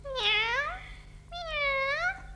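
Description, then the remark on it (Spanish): A black cat meows twice, each call drawn out and rising then falling in pitch, clear, with a short pause between them and a faint low hum underneath. “Por fin, temblando de frío y agotado por la carrera, llegó hasta una casita, a donde una vieja, con la cabeza muy blanca, platicaba con su gato negro.”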